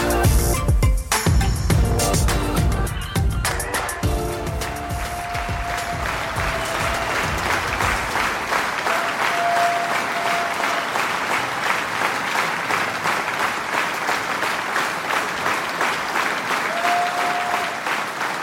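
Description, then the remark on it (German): Sustained applause from a sizable crowd, a dense steady clatter of many hands clapping that carries on loud for the whole stretch, with faint whistles rising above it now and then. “Liebe Hörerinnen, liebe Hörer, der Applaus war für euch.”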